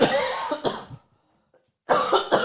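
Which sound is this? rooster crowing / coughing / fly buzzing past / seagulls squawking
coughing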